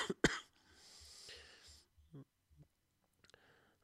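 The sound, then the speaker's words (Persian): A single sharp cough bursts out, followed by a long breathy exhale and a few faint clicks and murmurs amid quiet. A lecturer giving an online class is coughing. “عذرخواهی میکنم که دیگه من باید آروم صحبت بکنم که وگرنه دائم سرفه میکنم.”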